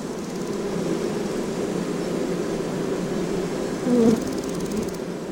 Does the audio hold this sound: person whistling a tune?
no